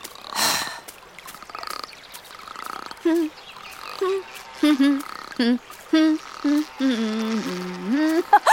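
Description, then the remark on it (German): A frog croaks repeatedly in short, throaty bursts, about a dozen in quick succession, fairly loud, ending in a longer, drawn-out croak over a soft background hiss. “Hör doch mal auf zu quaken.”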